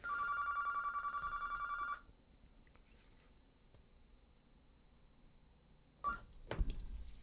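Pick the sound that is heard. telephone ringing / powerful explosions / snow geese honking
telephone ringing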